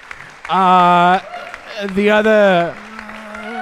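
Audience applause as a steady noisy patter, topped by two loud, sustained, tonal vocal whoops or cheers, each lasting under a second, with the clapping carrying on between and after them.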